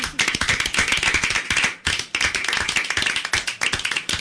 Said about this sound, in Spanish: Te damos un aplauso y te esperamos en la próxima.